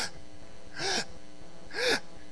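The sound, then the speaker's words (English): Two short, sharp gasping breaths, about a second apart, made by a speaker imitating the Savior on the cross, his lungs fixed so he could only take short gasps of breath. Each intake is breathy, with quiet pauses between. “Arms stuck out like this, and he could only take short gasps of breath.”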